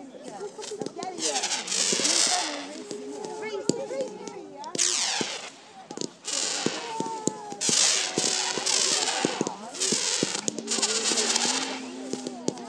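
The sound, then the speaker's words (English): Small fireworks crackle across the sky in dense, rapid bursts of sharp pops and sizzles that keep going throughout, going up and then off sideways in various directions, with voices chattering in the background. “They make a funny noise. Right across the sky, those fireworks.”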